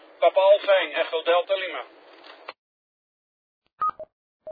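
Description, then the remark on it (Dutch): A rough, buzzy amateur radio transmission on very high frequencies, distorted by rain scatter (not aurora, though it sounds like it): a voice garbled into a hissing rasp for about two seconds, then quiet, followed by a few short electronic beeps. “Ja, het is geen Aurora, maar het is regensketter. Maar het klinkt inderdaad net als Aurora.”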